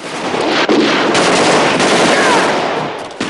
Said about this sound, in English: Fraker sprays at it with an Uzi and it crashes into a burning car.